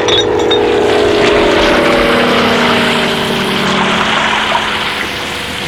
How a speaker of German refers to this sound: Passt auf! Das Löschflugzeug wirft Wasserbomben!